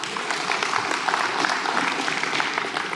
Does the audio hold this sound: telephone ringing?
no